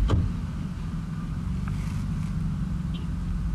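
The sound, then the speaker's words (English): A car engine hums in a steady low rumble as the vehicle pulls out of a space in a parking lot, with a brief knock at the start and no voices. “Yeah, I'm in a parking lot because I forgot to get this done today, so I'm going to wait for this car to pull out, and then we'll resume.”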